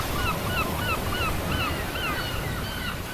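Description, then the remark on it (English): Ocean waves wash steadily onto a beach in Barbados in a loud, continuous roar, with a series of repeated honking bird calls sounding over the surf. “If you live in Barbados, you must go to the beach.”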